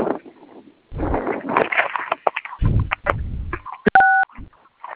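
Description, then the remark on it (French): Clattery handling and rustling noises lead up to a single clear touch-tone keypad beep on a phone, a short steady dual tone, followed by more faint clicks, as a number is entered in the phone's messaging centre. “Quand vous retrouvez le centre de messagerie, vous introduisez ce numéro que je vais vous donner tout de suite là.”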